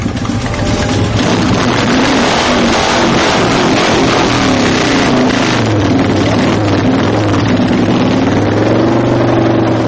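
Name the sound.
motorcycle engine revving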